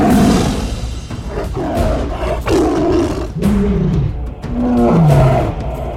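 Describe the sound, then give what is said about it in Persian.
A hungry lion roars loudly over and over, deep rumbling growls with falling, guttural tones, filling the whole stretch with almost no pause between bursts. “به پشت سرش که نگاه کرد دید شیر گرسنه‌ای با سرعت باور نکردنی دارد به سمتش می آید”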